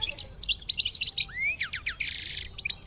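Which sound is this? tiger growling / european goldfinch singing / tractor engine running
european goldfinch singing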